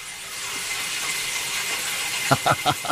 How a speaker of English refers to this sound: It still has the original oil furnace that heats up the house. And that's the sound that the furnace makes as it's burning the oil. Wow, I think some birds are getting burned in there too. That's a very cool sound.